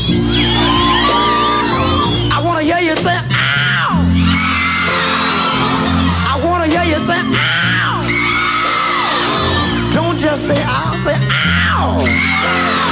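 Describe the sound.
A live soul concert crowd screams and whoops loudly and continuously on the singer's call to scream, many shrill voices rising and falling in waves over a steady band playing underneath.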